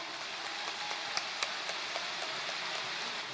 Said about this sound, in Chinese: 下面让我们掌声恭请尊敬的卢俊宏台长上台。